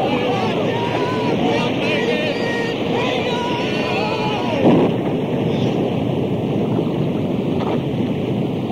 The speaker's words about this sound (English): Disciples were helpless against the storm that raged across the Sea of Galilee. The storm lashed at the boat, the waves crashed against the sides, and the foaming waters almost buried the men and boat.